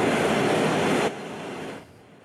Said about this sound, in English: Paratrooper static line jump from C-17.